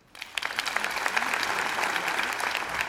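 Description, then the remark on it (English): An audience breaks into applause, many hands clapping in a dense, steady crackle that starts abruptly and holds at an even level for a few seconds, with no voices. “Clap your hands if you think this is real.”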